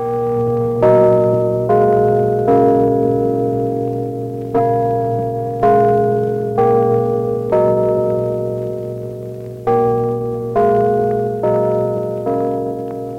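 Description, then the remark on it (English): Clock chimes on the gimbal clock ring out a slow melodic sequence of about a dozen clear bell tones, marking 8:45 on WWSW radio, Pittsburgh. Each tone is struck and left to ring and decay, steady and fairly loud with no talking. “chimes on the gimbal clock say it's 8:45, and we bid you good morning.”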